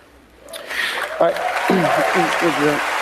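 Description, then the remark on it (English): Audience applause swells in after a brief quiet start and continues as a steady, dense patter of clapping, while a voice speaks over it; the man speaking tries to tamp down the clapping, putting his hand down. “that he is trying to tamp down the clapping.”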